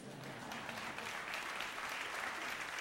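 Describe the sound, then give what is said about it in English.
An audience claps steadily for a musician being introduced on stage, a dense wash of many hands with no clear individual beats, holding at an even, moderate level for about three seconds with no voices. “So, yes, you can applaud.”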